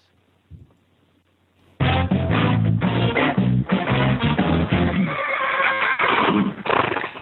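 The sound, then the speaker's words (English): After a quiet opening with one soft thump, a loud horse whinny bursts in, shrill and wavering, and carries on in shaky, harmonic waves for several seconds with no voices. “And, you know, daily whinnies are usually happy things, but you just got to send one out to Plains Bay Eventing.”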